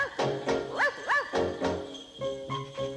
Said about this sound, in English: On Christmas Eve when all is dark, children hear Bufo bark.